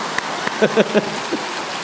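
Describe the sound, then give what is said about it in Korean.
Steady, dense applause from a crowd fills the whole stretch, a hissing patter of many hands, with a few brief voiced calls rising over it midway. “또 박수 치고 치려면 확실히 치시던가요.”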